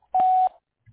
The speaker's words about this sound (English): You have reached Barrabee Electrical Company. No one is available at this time. Please leave your name and number at the beep, and someone will return your call as soon as possible.